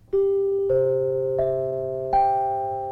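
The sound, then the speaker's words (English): A bell chimes four times in quick succession, given as a four-bell rating for a singer's recording, each strike a little higher in pitch and ringing on under the next, loud with no voices. “Four bells, and it is ….”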